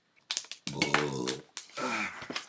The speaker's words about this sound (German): Und gerülpst.